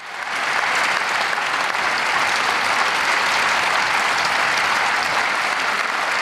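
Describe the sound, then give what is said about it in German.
Long, sustained applause from members of the German Bundestag for Belarusian opposition politician Svetlana Tichanowskaja, a dense, steady wash of clapping that holds at full strength throughout, with no voices standing out. “Lange, wirklich lange applaudierten die Abgeordneten für Svetlana Tichanowskaja.”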